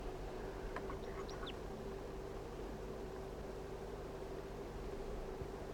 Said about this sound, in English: There's a crossbill right now on the top of a lone pitch pine near the net site, down below. Stop. The birds are being attracted by 4-3. I don't know if there are one or two wild birds, but here they are in the trees near the net site.